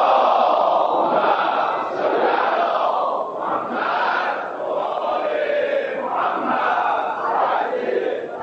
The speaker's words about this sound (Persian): اگه میخواین یه تجربه بگم، باید یه صلوات بلند برای فرج امام زمان ختم بفرمایید.